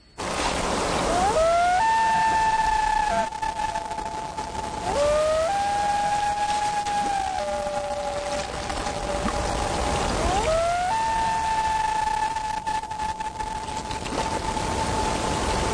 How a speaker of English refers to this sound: And that's a common loon, which is on lakes. And I've lost track of the number of writers who talk about how chilling it is to hear that sound on a misty lake, because it seems that they always talk about hearing it in the mist. In the dark.